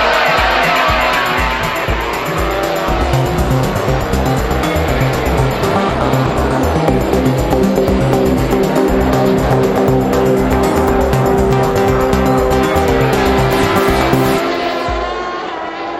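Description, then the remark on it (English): A loud roar of racing motorcycle engines revving hard together at the start of a motorcycle road race, sustained for about fifteen seconds with rising and layered engine whines as the pack launches and pulls away. “The lights are on red. We're away.”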